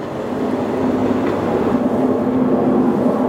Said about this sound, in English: Jeez, another airplane. Yeah, that sucks. You don't even get to be near the airport and you still get blasted by airplanes all day?